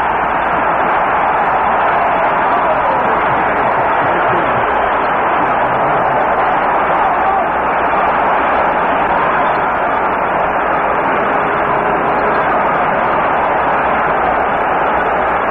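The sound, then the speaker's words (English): A large stadium crowd of Detroit Lions fans roars loudly and continuously for the whole stretch, a dense wall of cheering voices with no single speaker standing out, after linebacker Bob Long intercepts a pass against Cleveland. “The roar tells you how this highly partisan Detroit Lion crowd felt about that interception by left linebacker Bob Long from UCLA.”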